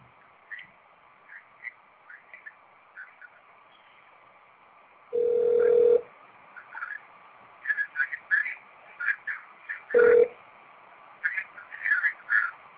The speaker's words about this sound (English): Leave a message and I'll call you back. Well, I can't believe he's not answering the phone.